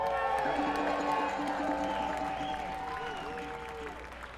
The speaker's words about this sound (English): We're gonna bring up the rest of the boys up here, and we're gonna introduce. I'd love to give a big round of applause